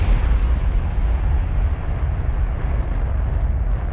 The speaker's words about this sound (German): Das ist eine Rakete. Auch Raketen haben Verbrennungsmotoren. Genauso wie Flugzeuge. Der Unterschied ist nur, dass das Gas darin keinen Kolben bewegt. Es schießt stattdessen einfach mit vollem Druck an der Seite heraus